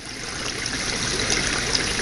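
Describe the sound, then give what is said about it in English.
Steady gurgling of a brook, water bubbling and trickling continuously with a bright, hissy texture and small sparkling splashes, fairly loud, with no voices. “And she says, we all think water. And more precisely, we think gurgling brook.”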